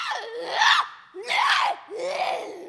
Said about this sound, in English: Ours are a little more specialized because we do a lot more intense vocals, a lot louder. We do screeches that really reverberate in the vocal box, and that really tends to cause some stress.